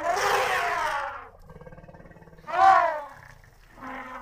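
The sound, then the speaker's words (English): Elephants call out in loud, roaring trumpet blasts, with a low rumbling stretch between them and two shorter bellows following, with no voices. “Yes, elephants and their friends, the rhinos.”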